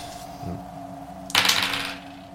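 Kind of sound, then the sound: household object, twenty-sided die being rolled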